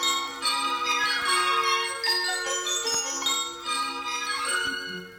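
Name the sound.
small bells jingling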